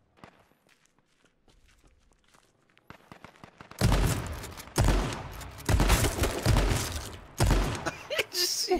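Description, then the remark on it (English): Soft, quick footsteps patter quietly, then a run of loud video game shotgun blasts erupts, roughly five heavy booming shots about a second apart, harsh. “A Jeep dings with a shotgun. Bang, bang, bang, bang.”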